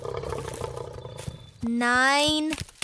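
A single loud, sustained lion roar lasting about a second, rising slightly in pitch, bursting out after a stretch of busy, muffled background noise.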